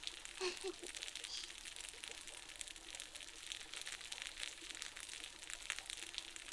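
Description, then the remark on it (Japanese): Carbonated water is poured on a head as a shampoo: dense, steady crackling and fizzing, a continuous bright hiss of tiny popping bubbles, with faint irregular crinkly pops throughout and no voices. “パチパチって音聞こえる？これすっごくやみつきになるでしょ。最初は炭酸を頭にかけるの？”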